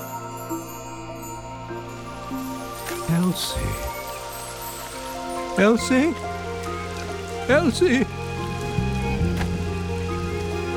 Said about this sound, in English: Forget about the rain.